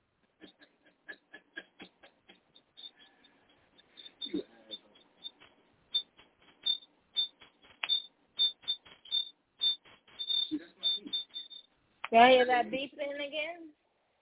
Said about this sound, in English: Y'all hear that beeping again? That ain't me. I don't know what that is.